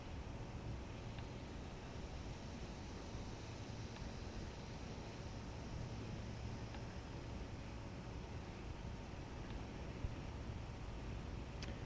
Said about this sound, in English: Once again now, let's hiss. Watch the mercury rise.